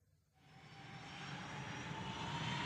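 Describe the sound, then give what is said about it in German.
A steady airplane engine drone fades in after a brief silence, then holds as a loud, broad roar with a faint high whine running through it, as the plane flies a turn, banked in the air. “Das Flugzeug fliegt gerade eine Kurve und liegt schräg in der Luft.”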